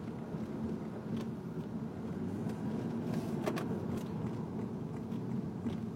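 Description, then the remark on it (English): Steady low rumble of a car driving through city traffic, with constant road and engine noise and a few brief clicks and ticks partway through. No one speaks. “Yeah, still a lot of cars here.”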